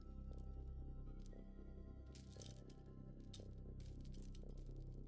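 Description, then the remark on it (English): Soft, intermittent metallic clinking of chained shackles on wrists and ankles shifting as someone sits up, in a few brief bursts over a low, steady background hum. No one speaks. “As you sit up, a gentle clinking noise greets you, and you feel weights on your wrists and ankles.”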